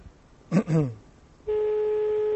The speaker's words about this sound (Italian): Sta suonando, sta squillando, squilla, però per il momento non risponde la signora. La signora non risponde, ma...